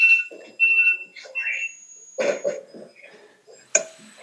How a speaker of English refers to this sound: your alarm's going off.